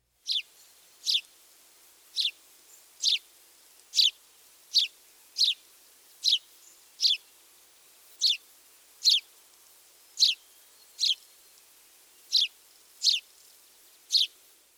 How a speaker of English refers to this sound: It is fair to say that the house sparrow's chirps are unremarkable. Birders would do well, however, to learn this song.